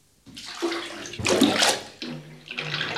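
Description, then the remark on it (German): Water sloshes and splashes in a bathtub, in three rolling surges with short dips between them. There is no talking. “Ich lasse das Wasser heraus, wenn Sie die Ente hereinlassen.”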